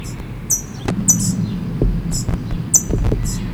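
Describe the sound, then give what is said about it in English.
Parrot calls: a chick's high, raspy begging notes repeat in short bursts, with brief sharp chips from a parent up in a tree, all over a steady low rumble of background noise. “It's now still begging. Parent is up in the tree chipping.”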